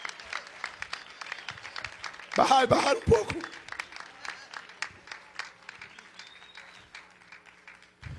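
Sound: audience applauding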